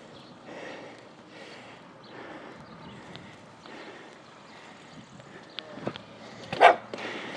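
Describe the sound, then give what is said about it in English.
A friend's dogs bark in greeting a few times near the end as the speaker arrives at the friend's door, one sharp, loud yelp standing out, after several seconds of low, steady rumbling background noise. “I'm being greeted by my friend's dogs.”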